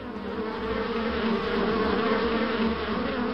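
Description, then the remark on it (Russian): A swarm of guard wasps that have flown out of their nest in a tree hollow buzzes steadily, a dense, agitated droning hum with overlapping wingbeats that holds at the same loudness throughout, with no voices. “Видишь, из дупла уже вылетели недовольные сторожа.”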